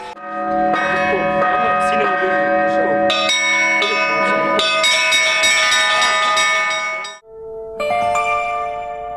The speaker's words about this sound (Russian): Завершился день по-пасхальному мастер-классом колокольного звона, на котором каждый желающий смог попробовать себя в роли звонаря.